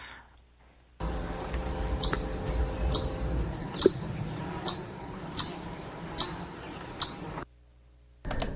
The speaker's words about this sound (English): This one is the classic chipmunk noise that I do know that it tends to do if it's scared or trying to yell at someone who's coming too close.